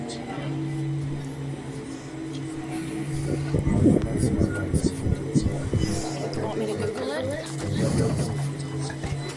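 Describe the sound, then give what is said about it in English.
A steady, droning engine rumble of an airplane passing overhead along its flight path fills the background, while people talk over it in bursts. “Yes, we are in the flight path.”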